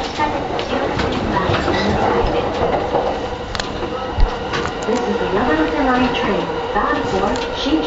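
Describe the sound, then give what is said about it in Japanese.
Steady rumble and rattle inside a moving Yamanote Line commuter train, with a rising and falling motor whine and an occasional sharp clack. Muffled voices murmur faintly beneath the continuous running noise. “で、今からちょっと流す音は、山手線の中で撮った音です。”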